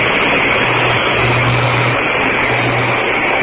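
A loud, steady mechanical drone with a low motor hum that starts and stops in a few stretches: a cherry picker lift motor going up and down, over constant engine noise.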